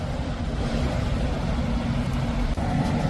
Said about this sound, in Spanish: Un sonido que parece sacado de una escena de una película de acción. Una película de narcos. Escucha. Una goma está pasando por debajo del puente de Alamillo. Otra más.